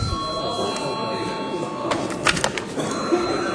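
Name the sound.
parliament chamber bell ringing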